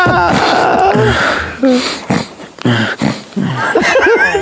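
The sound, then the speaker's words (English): Irregular, stuttering breaths of a person sleeping come in short, uneven gasps and catches, some with a voiced, moaning edge, separated by brief pauses, with faint chuckling mixed in. “Also, that breathing pattern, if you actually are sleeping, is quite alarming.”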